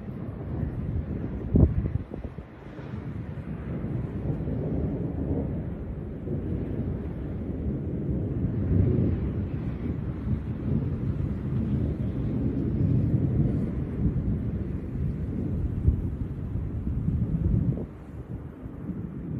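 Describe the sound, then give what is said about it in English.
Storm wind roars steadily with a deep, rumbling low end, broken by a few sharp impacts near the start and a burst near the end, suggesting hail and thunder, as a storm rolls into the area, videotaped while hail hits the back of the filmer's hand. No one speaks. “But this is it rolling into our area. Hail's hitting his fucking back of his hand.”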